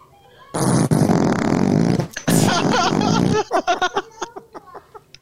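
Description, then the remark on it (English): A loud, drawn-out fart sound effect played from a soundboard blasts for about three seconds, pauses briefly, then breaks into a rapid series of short sputtering toots that fade out at the end. “So I re-uploaded the farts one, and that one works fine.”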